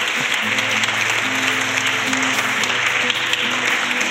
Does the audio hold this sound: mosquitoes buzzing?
no